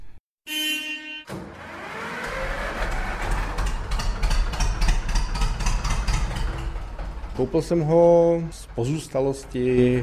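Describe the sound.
A vintage Zetor ZR-25 tractor engine starts up and runs with a loud, steady low rumble, briefly joined near the end by voices.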